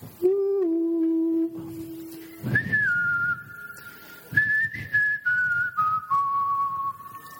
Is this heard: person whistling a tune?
yes